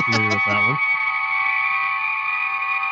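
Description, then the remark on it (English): A Star Trek transporter effect: a short burst of a voice at the start, then a long, steady shimmering hum with bright ringing overtones that holds at an even loudness to the end. “Yeah, it's a long transporter.”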